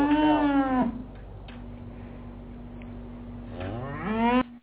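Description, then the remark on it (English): Two loud, drawn-out cow moos, one falling and one rising in pitch, separated by a low steady hum in a quiet gap. “Chick-fil-A, yeah, the cows, the whole bring thing. Bring that move back in if you don't mind.”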